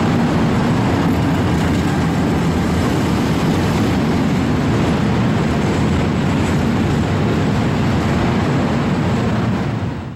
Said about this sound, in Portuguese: Em frente a eles estão os trilhos de ferro, rodeados de pequenas pedrinhas negras. E as vibrações do chão anunciam, finalmente, a chegada do trem.